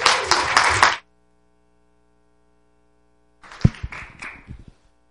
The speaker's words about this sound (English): One more time, give a hand clap for Jesus.